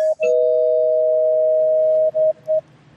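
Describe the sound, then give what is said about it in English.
A loud, steady electronic bell tone, rung as a spoiler warning before talk about Avengers: Endgame, sounds for about two seconds, followed by two quick shorter rings, with no one talking. “Spoiler alert, because maybe you waited for the re-release with the extended footage that's coming out next weekend.”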